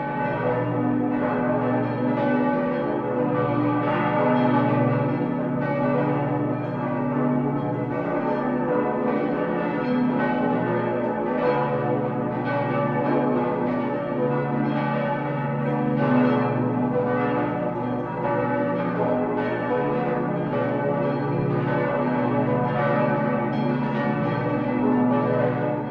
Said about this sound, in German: Und beide besitzen so mächtige Geläute, dass das Schillersche Wort von der Nachbarin des Donners auf diese Glocken gemünzt sein könnte.